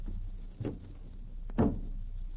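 A door eases shut with a soft, muffled thud, preceded by a fainter knock or latch sound a second earlier, against a quiet low hum.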